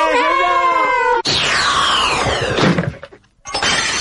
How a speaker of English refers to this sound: Oh, my goodness. I told that lad not to play lacrosse indoors. Ho, ho, mum. Fooled you. It was just my smashing fun broken window simulator. The latest wizard gag from Stonko Products.